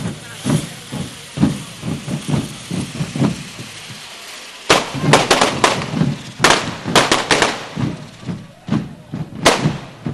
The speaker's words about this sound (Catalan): Doncs a darrera encesa ja, de la Colla Vella. Que ha obert aquest any les Colles de Diables a l'Hort de Can Fals. Toc de timbals. I ara, encesa de carretilles.